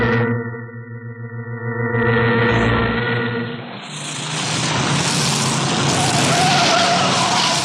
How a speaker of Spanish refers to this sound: El potente auto blindado de Miklos Rogasis, la negra limusina, corre veloz por el camino que bordean los altos pinos del monte Bortz.